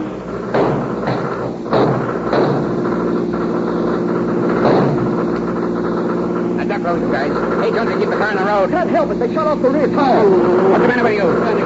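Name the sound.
car engine roaring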